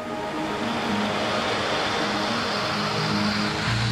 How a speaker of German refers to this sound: Sojabohnenpampe. In der Fabrik wird diese Pampe erstmal aus dem Topf gelassen. Und damit nichts drin bleibt, wird mit Wasser nachgespült.